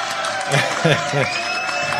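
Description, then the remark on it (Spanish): A crowd applauds and cheers in a steady, dense wash of clapping, with voices calling out over the noise, welcoming someone back. “Bueno, bueno, esos aplausos.”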